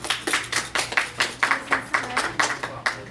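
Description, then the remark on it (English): Applause at a community conversation meeting in the Albany region, in the form of steady, evenly spaced clapping, about a dozen sharp claps in quick rhythm, moderately loud with a faint low hum beneath and no talking. “I definitely don't need no applause.”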